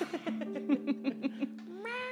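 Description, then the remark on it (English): One of the resident cats, Sid and Moo, makes a loud, rhythmic purring rumble in steady pulses, then ends with a short rising chirp-like meow. No one speaks. “Oh my gosh, resident such a cats. Loud purr.”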